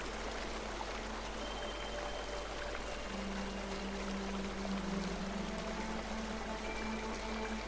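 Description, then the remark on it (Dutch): A steady, continuous rush of sparkling clear water from a waterfall pouring down from the hills, filling the whole stretch at an even level, with a faint low hum threaded through it and no voices. “We volgen het pad en naderen de piramide en zien dat naast de piramide vanuit de heuvels een waterval naar beneden komt. Het sprankelend helder water.”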